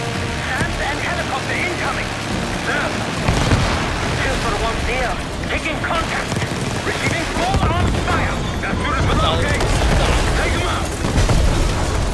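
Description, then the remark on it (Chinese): Repeated booming blasts and crackling bursts from video game rocket fire fill a dense, noisy stretch, with scattered chirpy tones and rumble layered throughout at a steady loud level. “火箭跑啦！”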